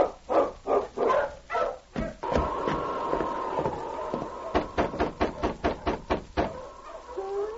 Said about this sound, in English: Shortly after Jim Higgins left his cabin with food for the prisoners, Sergeant Preston drove up with his dog team. Ho, King! Ho, you husky!